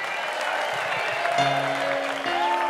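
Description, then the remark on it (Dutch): An audience claps steadily in a dense, continuous wash of applause that fills the whole stretch, with a few sustained musical tones cutting in over it partway through. “Geef hem een groot applaus.”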